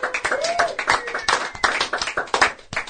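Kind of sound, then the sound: crowd, hand clapping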